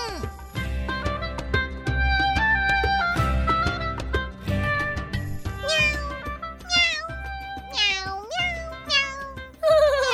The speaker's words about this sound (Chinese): 好像是小猫咪和大鸟妈妈的声音哎